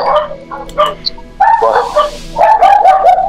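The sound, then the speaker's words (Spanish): Dogs bark in repeated bursts, several sharp yaps and whining barks overlapping, loud, with a brief pause before a louder, sustained volley near the end. “Ay, ¿qué? Okay. Mucho los perritos, sí.”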